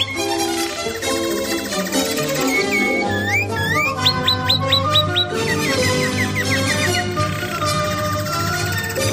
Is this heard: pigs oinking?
no